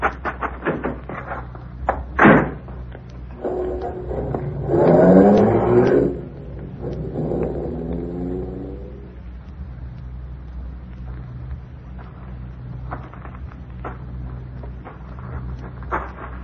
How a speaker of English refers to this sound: I did. I thought I heard a car along the road while I was coming through the trees. I didn't hear anything here. Well, there's nothing on the road.